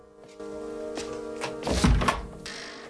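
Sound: knock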